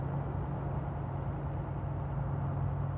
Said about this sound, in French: les rails de chemin de fer de la ligne Bruxelles-Malines, l'autoroute vers Anvers et un entrelacs de routes et de voies rapides.